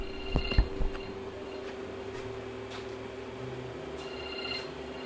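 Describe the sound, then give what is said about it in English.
An electronic alarm goes off as a reminder to get ready to go, sounding high-pitched beeping tones in short bursts at the start and again near the end. It is fairly quiet over a steady low hum. No one speaks. “Oops, there goes the alarm for me to get ready to go.”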